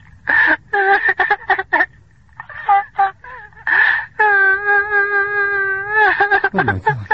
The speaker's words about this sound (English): A child crying bitterly, pitifully. A child, yet not a child. An actor playing the part of a child crying.